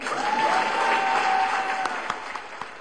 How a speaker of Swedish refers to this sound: Idag får man applådera.